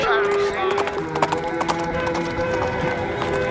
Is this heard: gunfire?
no